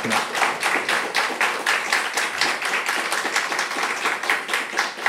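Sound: audience clapping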